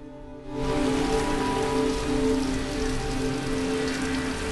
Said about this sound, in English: It's night time and pouring with rain.